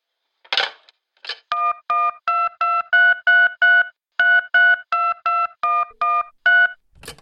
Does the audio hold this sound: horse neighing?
no